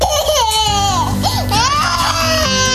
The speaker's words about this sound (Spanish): ¿No ves que está llorando?